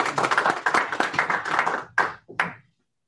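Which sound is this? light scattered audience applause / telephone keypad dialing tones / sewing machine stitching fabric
light scattered audience applause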